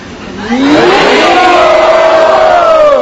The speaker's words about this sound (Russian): Давайте громким криком Хари Бол поблагодарим